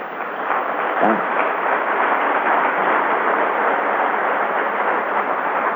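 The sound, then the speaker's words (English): An audience claps steadily for several seconds, a dense, even wash of applause that holds at a constant loudness throughout without pausing or swelling. “And I'll tell you, the people that I know you're clapping for are the ones who did the hard work”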